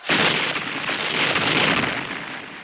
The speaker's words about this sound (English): Union cannons fire over the trench at the enemy, still far across the field. Explosions send earth and smoke high into the air.